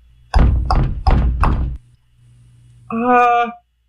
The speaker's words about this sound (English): He knocked on the door. And the door knocked back.